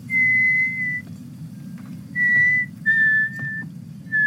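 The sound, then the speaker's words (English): Eerie whistling heard from the front door: four sustained, steady whistled notes, the first held about a second, with short gaps between, over a low constant rumble. No one speaks. “And then I was like, oh my God, we hear the same whistling that Addie heard when she was younger.”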